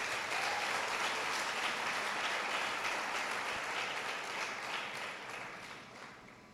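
A crowd claps steadily in a dense, sustained wash of applause that holds for several seconds, then gradually thins and fades toward the end. No one speaks over it.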